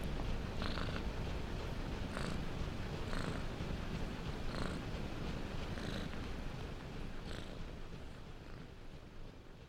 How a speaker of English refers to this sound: He felt something rub against his leg. A black cat looked up at him, purring loudly, a hum that merged with the sound of many, many machines.